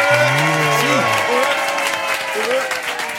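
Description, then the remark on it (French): A large audience at the Zénith de Paris claps steadily and loudly throughout for the duo Les Baudins, with a few long, low bellowing whoops rising over the dense applause near the start and again toward the end. “Un tonnerre d'applaudissements et quelques beuglements pour les Baudins.”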